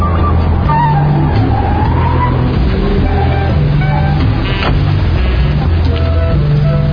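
Car tires roll loudly over the road beneath a droning engine, a steady rumble with shifting tonal hum lasting the whole stretch and a brief sharper burst midway.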